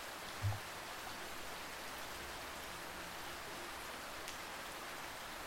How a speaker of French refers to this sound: C'est un phénomène amusant qui a été étudié par des chercheurs et qui pourrait s'expliquer par une combinaison de raisons, et notamment par la musicalité et le rythme de la pluie qui tombe.